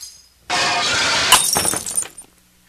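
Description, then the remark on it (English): Glass candle holders are knocked onto a hard floor, a loud burst of shattering followed by a spray of tinkling shards and a few scattered clinks as the pieces settle, with no talking. “I'm knocking over candles under the floor.”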